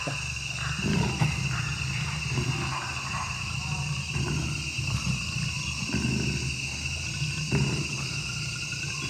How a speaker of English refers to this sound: That's a jaguar we're hearing. The growl in the background is the jaguar. That's right. So I don't know how close you have to get to a jaguar to get that. 10 meters in this case.